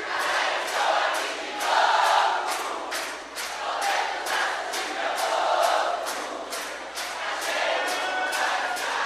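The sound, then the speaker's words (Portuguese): A crowd at a band's show claps in steady unison along with the song as the drums stop, roughly two sharp claps per second, while many voices sing along underneath in a loud, continuous wash. “A bateria vai parar e vai ficar só as palmas de vocês.”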